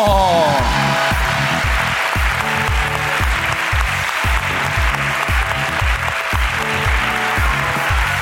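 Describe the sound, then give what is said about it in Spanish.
A crowd claps and cheers loudly and continuously for an actress guest, with dense applause throughout, while some musical backing and a few voices rise underneath the clapping. “Un aplauso para una actriz.”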